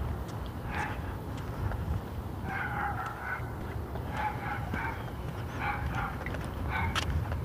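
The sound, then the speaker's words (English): A small, yappy dog barks in short, high-pitched bursts, several quick barks clustered together over a steady background hiss, with no one talking. “My hearing aids are making that dog barks, that yappy dog sound like a crow screeching or something.”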